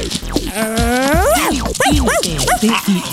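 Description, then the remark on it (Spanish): A person imitates with their voice a very big dog that barked at them as they were walking, starting with a long, rising whine and then giving several short, sharp barks in quick succession, loud. “Así me ladraba el perro, tía.”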